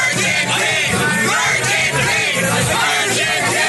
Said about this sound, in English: Here was a clip from a bunch of our RHAP listeners at the after party for Survivor Know-It-Alls, cheering for him.